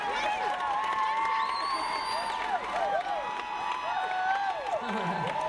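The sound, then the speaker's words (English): A lively crowd cheers and whoops steadily, with rising and falling shouts layered over a constant wash of clapping and chatter, filling the whole stretch at a fairly even level. “Thank you for a lively crowd.”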